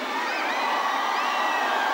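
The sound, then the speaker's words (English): A large concert audience screams and cheers continuously for a band, a dense wall of high-pitched shrieks and whoops that stays loud and steady throughout, with no talking rising above it. “You're a fantastic audience. You can scream.”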